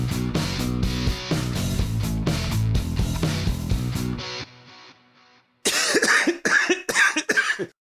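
After a stretch of upbeat music fades out, a person with a cold coughs and clears their throat in a few rough, loud bursts close together.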